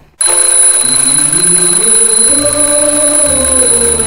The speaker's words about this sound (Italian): Ah, che noia sta sveglia. È dura, eh.